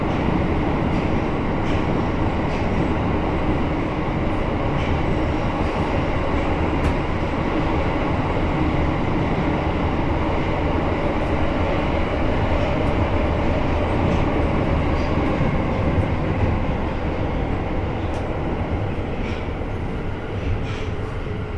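A subway train runs steadily toward Nihonbashi (Takashimaya-mae) station, a loud, continuous low rumble and roar of wheels and motors from inside the car, with faint rattles and no voices.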